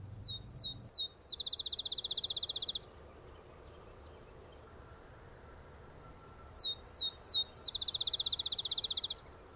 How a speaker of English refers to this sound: The sparrow is singing from a small leafless shrub in a huge open field. It throws back its head, opens its bill impossibly wide, and just lets it all go. This is the music of the outdoors, and there is no singer to compare with a field sparrow.